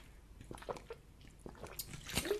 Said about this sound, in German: Darauf einen Schluck Wasser, ihr Lieben.